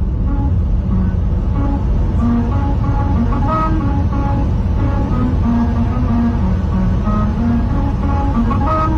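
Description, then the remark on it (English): Car tires rumble loudly over grooved lines in the white road paint of a musical road, producing a steady droning hum with changing musical pitches, recorded from inside a car driving at the speed limit for the whole stretch. “And so that's just the noise of the tires. That going, is going over the lines.”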